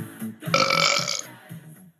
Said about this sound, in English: Did you hear the burp? Totally inappropriate. You asked how I was, so I burped at you.